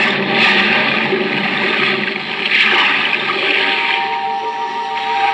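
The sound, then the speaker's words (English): A loud rush of churning water as a diver with equipment plunges overboard into the sea, with bubbling and surging that continues steadily for several seconds. No voices. “Now, hoist you up and overboard and dive with your equipment well in hand into the sea and under it.”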